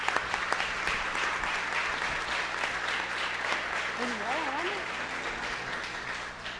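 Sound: loud applause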